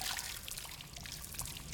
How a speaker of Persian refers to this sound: نه. کیسه آبش پاره شد.